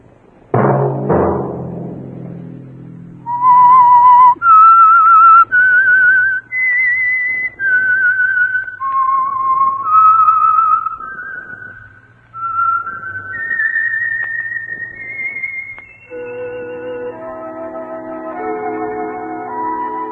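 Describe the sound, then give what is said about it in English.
A loud, clear whistled melody of sustained notes climbing and dipping in a slow, haunting theme, opened by a brief low musical chord and ending over soft held instrumental tones. No one speaks. “Let that whistle be your signal for the Signal Oil program, The Whistler.”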